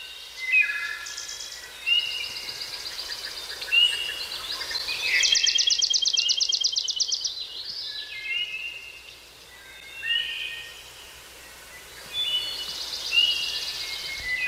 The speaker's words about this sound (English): You know, that kind of sounds like spring is coming, not exactly like right now where their birds are going away a little bit.